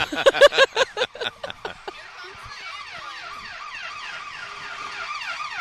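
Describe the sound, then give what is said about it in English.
Rapid loud blaring bursts give way to the sirens of two ambulances stuck behind a garbage truck, wailing and sweeping up and down, overlapping and steady, continuing to the end. “By the way, nothing beats two ambulances stuck behind a garbage truck.”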